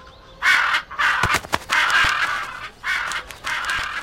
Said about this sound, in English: We live next to the birds. They always wake up early. They never get up late.